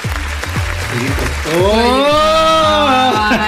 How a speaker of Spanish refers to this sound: Sí, vamos a darle un aplauso a la preferida de los miércoles.